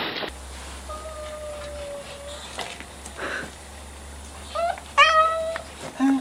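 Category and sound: animal, cat meowing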